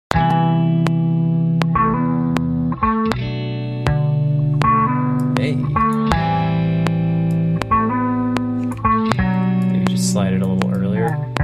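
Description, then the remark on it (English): A second guitar sample loop from a sample pack, played at halftime to make it lower, plays alone, its sustained, processed chords shifting every second or so with steady rhythmic plucks, full with a thick, wavering tone. “Maybe to make this lower, let's try halftime.”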